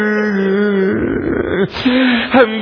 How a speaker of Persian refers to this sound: دخترم گریه تو قلب منو آتش میزنه.